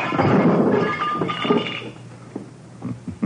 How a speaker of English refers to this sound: So you smashed the lamp.